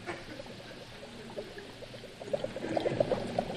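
Liquid bubbling steadily with irregular gurgles and pops, growing busier and a bit louder toward the end, with no talking.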